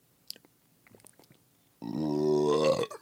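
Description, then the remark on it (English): A long, loud, low-pitched burp rumbles for about a second after a few quiet clicks and mouth sounds, its tone wobbling slightly before cutting off. “You got to be ready to hit that release valve.”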